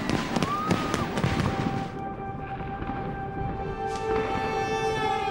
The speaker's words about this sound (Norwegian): Fyrverkeriet hänger över Oslo.